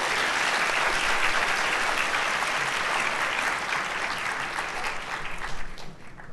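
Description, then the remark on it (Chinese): A crowd applauds steadily to welcome Dr. Chen Zuoren, a philosophy professor, as he is handed the floor: a dense wash of many hands clapping at an even, loud level that thins slightly toward the end. No one speaks over it. “我们现在把时间交给陈佐仁博士，请大家鼓掌。”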